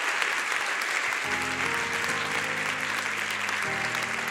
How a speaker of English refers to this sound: Why don't we give God a great big hand clap of praise?